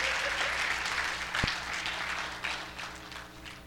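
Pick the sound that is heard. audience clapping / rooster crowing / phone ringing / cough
audience clapping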